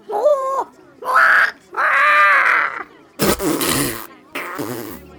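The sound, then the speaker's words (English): Three loud, drawn-out seagull squawks with wavering pitch, followed by two harsh, raspy noise bursts. No talking. “But if you don't believe me, just ask the seagull.”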